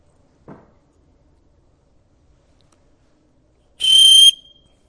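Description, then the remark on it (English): A small whistle gives one sharp, shrill blast of about half a second, loud, after a soft brief knock and a stretch of near silence. “I brought this little whistle in here.”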